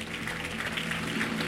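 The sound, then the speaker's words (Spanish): An audience applauds for Jesus Christ after a prayer, in a dense, steady wash of clapping that holds at an even, moderate loudness for the whole stretch, with no one speaking over it. “El mejor aplauso a Jesucristo.”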